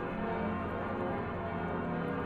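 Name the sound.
church bells ringing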